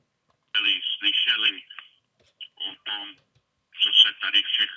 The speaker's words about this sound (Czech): A máme tady telefon. Haló?